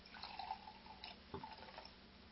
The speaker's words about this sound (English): And now I shall pour some wine from the Kiddush cup